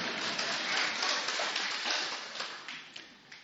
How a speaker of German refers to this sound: Danke vielmals, einen kräftigen Applaus